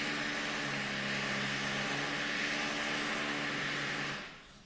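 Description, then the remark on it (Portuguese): A chainsaw runs steadily at constant speed, a loud buzzing drone with a low humming tone beneath a harsh hiss, then cuts off just before the end. No one speaks. “Rapaz, tem uma motosserra ligada aqui.”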